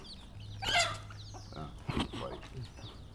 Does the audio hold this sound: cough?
no